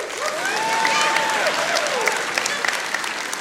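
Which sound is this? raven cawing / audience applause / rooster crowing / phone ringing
audience applause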